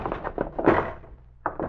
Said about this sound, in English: When I kick the door open, stand to one side and flash on the light. Now!